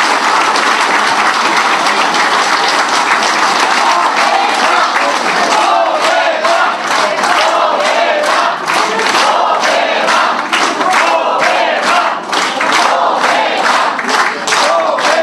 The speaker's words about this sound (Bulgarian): Моля вашите бурни аплодисменти за водачите на листи в цяла България. ДСБ и БДП.